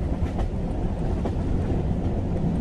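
A train rumbles steadily along the rails past industrial sheds on the northern outskirts of Berlin, Germany, a dense low-frequency roar with faint rhythmic clatter heard from inside the carriage, continuous and fairly loud throughout with no voices.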